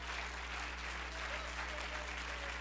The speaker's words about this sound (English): Somebody that loves him, clap your hands unto him and bless his name.